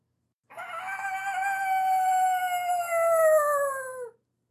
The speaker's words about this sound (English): A horrible scream echoes through the halls.